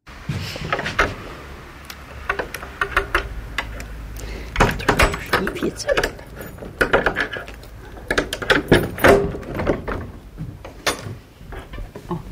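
A woman with a large set of keys unlocks and opens the door of an old barn that stores farm tools: a run of sharp metallic clicks and rattles, then heavier knocks and a low scraping rumble as the door shifts, irregular throughout.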